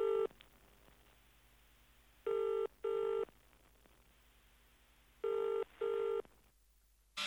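A telephone ring tone sounds in repeated double bursts, ring-ring, pause, ring-ring, steady and fairly loud over a faint hiss, with no one talking, ending abruptly in a brief click.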